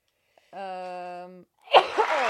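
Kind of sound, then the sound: human body sound, sneeze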